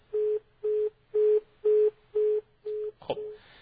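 A phone line's disconnect tone: six steady, evenly spaced beeps pulsing in a quick rhythm, followed by a sharp click and a faint rush of line noise. No one speaks. A caller's phone call has been cut off.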